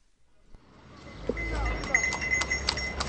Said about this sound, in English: A horse-drawn cart delivering kerosene travels along a busy connector road in far west Baghdad.